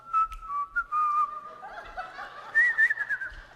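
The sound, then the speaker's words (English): A father whistles a short, jaunty tune as he goes to get the peanut butter, the notes sliding and wavering in pitch, with breathy gaps and a faint snicker-like exhale mixed in near the end. “And you could tell when Dad was going for that peanut butter, he almost had a bounce in his step. He whistles.”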